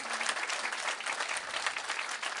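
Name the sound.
crowd clapping in rhythm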